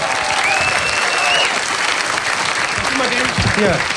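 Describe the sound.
Loud, sustained audience applause fills the whole stretch, a dense wash of clapping from a large crowd, with a voice cutting through briefly near the end.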